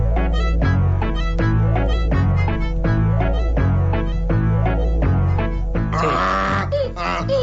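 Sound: donkey braying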